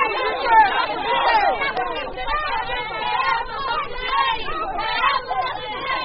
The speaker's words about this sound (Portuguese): Uma gritaria à beira dos portões, com seguranças atentos ao desenrolar dos acontecimentos, 72 horas após a primeira manifestação, igualmente acompanhada pela Voz da América.